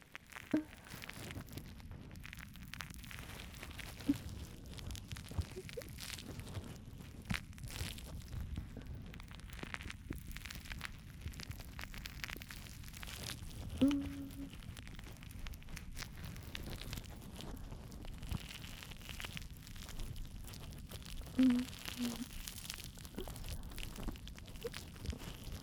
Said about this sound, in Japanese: マスター様のお耳をこの泡で洗わせていただきます。もこもこの泡でお耳全体を包み込むようにして。